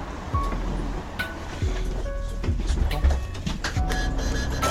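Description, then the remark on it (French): A bus arrives and rumbles past on a street, its deep engine drone steady and loud, with rattling clanks and brief squeaks over a few seconds of continuous street noise. “Ah bah venez, il y a le bus qui arrive.”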